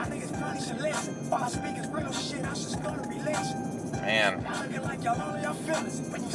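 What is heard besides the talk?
road traffic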